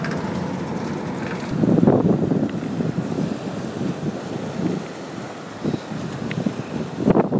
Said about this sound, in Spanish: Pues nada, no sé si se oye muy bien, no sé si el viento deja que se oiga algo, pero bueno, pues estamos aquí en Mykonos, donde la parte del puerto antiguo, creo que es esto.